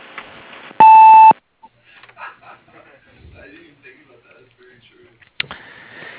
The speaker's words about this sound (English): If you need service, leave your name and phone number following the beep.